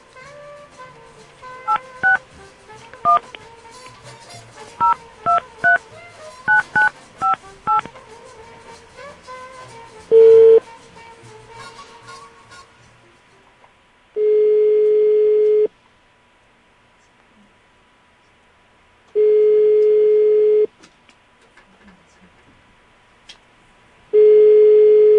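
A quick string of telephone keypad beeps dials a father's number in Shenzhen, China, followed by a steady ringback tone repeating in long, evenly spaced rings with silence between and nobody picking up.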